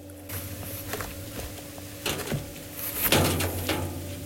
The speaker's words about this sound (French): Oui, il va fermer la porte.